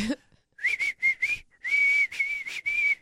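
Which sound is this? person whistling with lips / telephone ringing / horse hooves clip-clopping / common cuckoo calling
person whistling with lips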